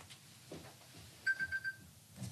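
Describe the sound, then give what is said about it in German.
An alarm clock beeps: four quick, high-pitched electronic pulses in a steady rapid rhythm, clearly louder than the quiet background murmur around them. “Da hat wohl jemand seinen Wecker angelassen.”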